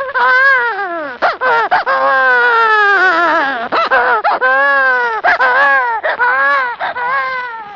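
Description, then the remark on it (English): A person imitates a bawling baby as a sound effect, crying into a microphone in a studio: a loud, continuous wailing cry with quavering pitch and short catches of breath between drawn-out sobs, with no other sounds around it. “Well, a baby cry is made by one of two ways. Either by having an expert crier weep into the mic and flood the studio with tears, like this.”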